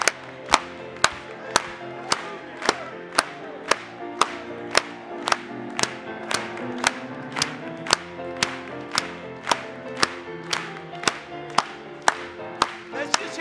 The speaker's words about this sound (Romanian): Haideți să o aplaudăm lui încă o dată!